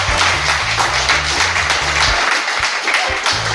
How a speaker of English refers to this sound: I'm going to get an applause sign, I think. Yeah, you could get used to some clapping.